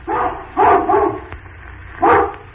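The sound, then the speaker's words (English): A human voice imitates an old hound dog's deep barking: three quick woofs, a pause, then one more, each bark rough and moderately loud, with nothing else in the background. “An old hound dog with a very old and very doggy bark like this.”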